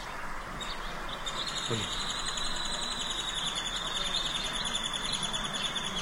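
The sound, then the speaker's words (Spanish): Birds chirp steadily in a dense, continuous chorus at a bird sanctuary, high-pitched trills layered over a constant low outdoor rumble, with no voices present. “Mira, esta fue mi narración, mi crónica en un santuario de aves. Escucha. Oye las aves.”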